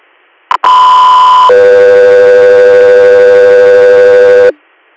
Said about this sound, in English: you're standby for tones.